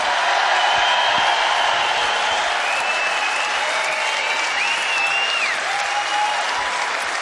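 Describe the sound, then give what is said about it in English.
A large concert crowd applauds the Ulster Orchestra under Brian Byrne loudly and steadily, dense clapping filling all seven seconds, with a few faint high whistles rising over the din. “And once again, give it up for the Ulster Orchestra under Brian Byrne.”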